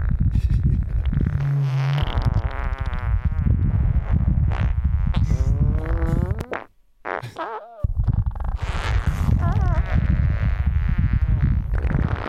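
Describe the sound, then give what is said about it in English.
Wind on Mars recorded by NASA's Perseverance rover: a loud, continuous low rumbling roar with buzzy, wavering overtones. It drops out briefly for about a second before resuming, with no voices. “Sounds like wind.”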